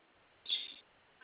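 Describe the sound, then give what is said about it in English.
A single harsh bird squawk bursts out for about a third of a second, fairly loud, followed by a faint short chirp near the end against a quiet background. “Eyes eating, drinking, still squawking, so.”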